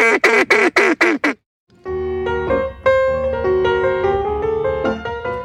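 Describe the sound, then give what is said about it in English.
A hand-blown duck call sounds five quick, loud, nasal quacks in a steady rhythm, as a group practices duck calls at night while drinking wine and laughing. After a brief silence, instrumental music begins. “The Swamp Witches stayed up, drinking wine, laughing, and, of course, practicing their duck calls.”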